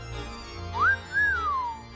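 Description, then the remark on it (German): A short two-note whistle: a quick rising tone, a brief pause, then a longer note that rises and glides slowly downward, over a faint low background hum. “Oh ja, ich pfeif drauf.”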